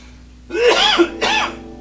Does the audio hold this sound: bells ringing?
no